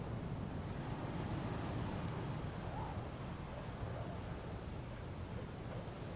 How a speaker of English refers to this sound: We kneel around it, looking down into the darkness. Listen. It's a sea. Down there.